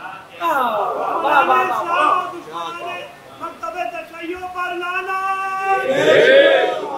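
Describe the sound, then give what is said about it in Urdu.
A crowd chants slogans of condemnation together in loud, sustained unison, with voices rising and falling in a steady rhythm and swelling to a louder burst near the end. “دیکھیے صرف زبان سے لعنت کے نعرے نہ ادا کیے, اللہ آپ کو اجر دے, لیکن نعروں سے بات نہیں بنتی”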